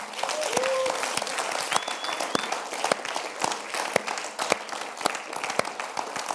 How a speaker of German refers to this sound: Vielleicht können wir Jesus wirklich einen absoluten Applaus geben für das.